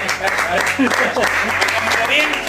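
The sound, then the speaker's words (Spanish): A crowd applauds steadily and loudly, a dense wash of many hands clapping at once, with voices talking and calling out underneath the clapping. “Bueno, un aplauso, ¿no? Un aplauso para...”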